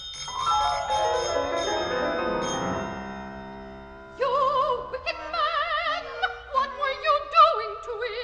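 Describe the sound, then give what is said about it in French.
In a staged opera scene, a descending orchestral passage gives way to frantic, rapid trilling rings from a telephone, bright high tones warbling in quick repeated bursts. “Le téléphone se met à pousser des sonneries affolées, comme un petit enfant qui appelle au secours, précise le livret.”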